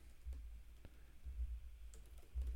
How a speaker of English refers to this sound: You're not ready? No, I'm like typing to Brent right now, actually.